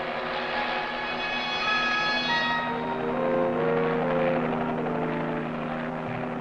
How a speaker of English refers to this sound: No one really knows yet what has to be faced. But the helicopters have been taking off since dawn. And now, in the cold gray light of Saturday morning, Alaska learns the answer.